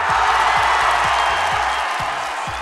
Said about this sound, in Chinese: 此处应有掌声欢呼声，谢谢。